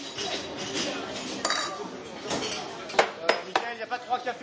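Busy ambience at the A La Fontaine cafe restaurant in Paris, with a low murmur of indistinct voices, punctuated by several sharp clinks of cutlery and dishes, growing more frequent toward the end.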